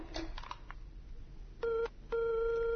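A few soft clicks and handling sounds from a lifted telephone receiver, then a steady, clear dial tone hums in two stretches separated by a brief pause, fairly loud.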